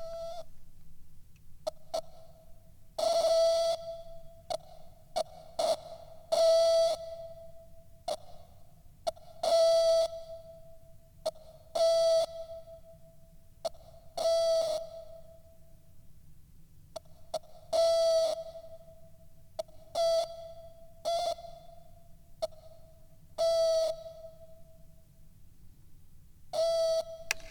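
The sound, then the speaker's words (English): A teapot whistles in broken, uneven bursts, short and long toots of a steady pitch stuttering in a Morse-like rhythm, with breathy hissing flaring around each toot and a low rumble underneath. “it is not a warm, sunny day. It's a teapot making weird noises day.”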